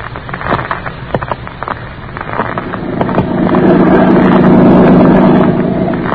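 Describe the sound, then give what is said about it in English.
A motorboat skims across a lake toward the mainland, its motor swelling into a loud, steady drone while choppy water noise and scattered sharp knocks fill the opening seconds, with no voices. “I sit here in the boat as it skims over the lake toward the mainland.”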